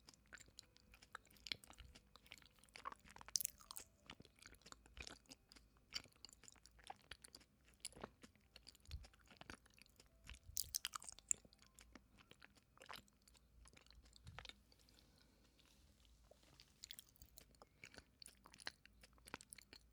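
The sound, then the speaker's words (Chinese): Wet chewing of a very large, sticky glutinous rice ball (tangyuan) being fed to someone, with soft squelching bites and smacking mouth sounds repeating irregularly throughout, no talking. “这个汤圆特别大，哥哥要张大嘴。这个样子，好了，我要喂你喽。”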